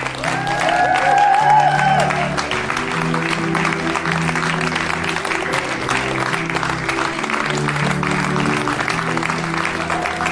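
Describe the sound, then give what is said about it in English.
A crowd claps steadily in dense, sustained applause throughout as a person is called forward to receive a small gift, with a few whistles or cheers rising briefly near the start and a low murmur of voices underneath. “Wow, you're getting a good clap.”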